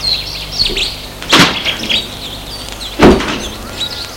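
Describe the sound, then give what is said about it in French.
Two solid car door thuds, a couple of seconds apart, as a man returns to his car, cut through steady outdoor ambience while birds chirp and tweet throughout in the background. “Il retourne à sa voiture.”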